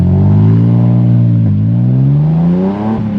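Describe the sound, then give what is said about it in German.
A car engine revs loudly and accelerates, its pitch climbing steadily, dipping briefly as it shifts gear, then rising again. Continuous, with no voices. “und hat erstmals seinen Chefreporter fürs Mythologische ins Auto gesetzt, und zwar, Ach ja, mich.”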